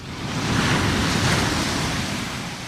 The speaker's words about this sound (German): Zum Verhängnis wird dem Schiff eine Monsterwelle, eine Wand von 30 Metern, ungleich höher als die anderen Wellen. Aus Sicht der Wissenschaft ein Extremereignis. Selten und gewaltig, plötzlich und unvorhersehbar.